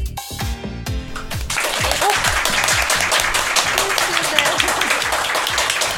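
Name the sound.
loud audience applause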